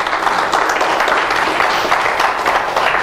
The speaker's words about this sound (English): Ladies and gentlemen, let's welcome each and every one who'll be watching us today by internet with a wonderful hand of applause in his house.